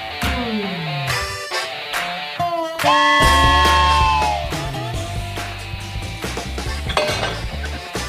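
A train whistle sounds amid clanking metallic clatter and gliding tones, then holds one loud, steady, rich blast for about a second and a half before fading back into jangling noise.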